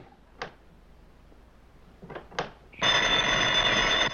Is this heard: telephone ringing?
yes